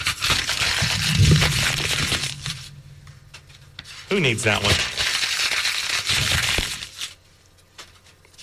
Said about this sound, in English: Crinkling paper on the air